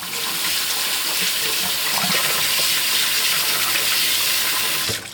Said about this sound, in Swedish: Och han lärde mig att man ska göra så med ris. Att tvätta ris.